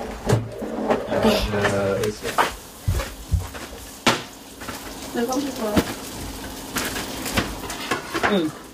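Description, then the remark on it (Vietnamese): Steady crackling sizzle of food frying in a pot of hot oil, with sharper pops and clinks of cookware scattered through, while people talk nearby over the sound. “Có nhẹ nhẹ, chứ bỏ nó nhảy vô nồi dầu á.”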